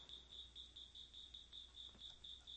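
A single cricket chirps inside a studio in a fast, steady pulse of high, shrill trills repeating about four times a second, fairly faint against a quiet background hum.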